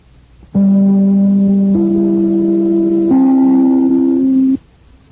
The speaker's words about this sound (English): Well, I'd better break this up right here and ring my chimes. This is NBC, the National Broadcasting Company.